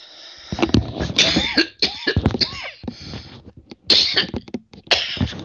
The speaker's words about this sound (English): Excuse me, I had a little bit of a coughing fit there.